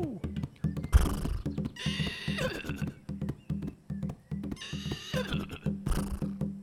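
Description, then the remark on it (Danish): Voices imitate horse whinnies in two loud, shrill bursts, one after the other, over a steady rhythmic thumping beat that runs underneath throughout. “Wow, I er gode til at sige som en hest.”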